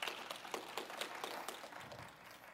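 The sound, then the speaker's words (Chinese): At a Christian gathering, an audience applauds again to thank several sisters for their sharing, many hands clapping steadily in a dense, crackling burst that holds for a couple of seconds and then begins to thin out, with no talking over it. “我们再一次热烈掌声，谢谢他们。”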